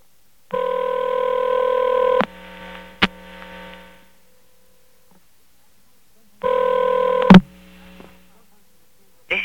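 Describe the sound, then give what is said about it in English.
A collect telephone call is placed to an answering machine: two long electronic line tones, each lasting a couple of seconds and separated by a pause, with sharp clicks on the line and a faint hum between them. “This is going to call an answering machine of mine, and it's going to ask if it's going to accept the collect call.”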